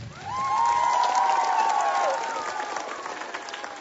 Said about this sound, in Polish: Są z nami także nasi przyjaciele, którzy łączą się teraz razem z nami poprzez Radio Maryja i telewizję Trwam. Dla nich ogromne brawa z Jasnej Góry. Ogromne brawa!